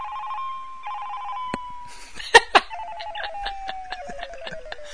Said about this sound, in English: Oh, no, it's your phone. I am Jason Statham. Here, I'll play my ringtone for people.